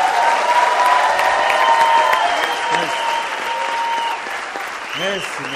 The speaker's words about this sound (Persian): باشه، یه تشویق جیانانه.